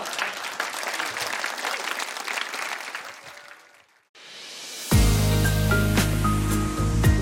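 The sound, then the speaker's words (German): An audience at the NDR Poetry Slam in Low German (Platt), held on stage at a poets' conference in Bad Bemsen, clapping loudly and steadily for several seconds before the applause fades out, followed by music starting up. “Das Publikum hat fix applaudiert und johlt wieder ein oder andere Geschichte von den NDR Poetry Slam ob platt.”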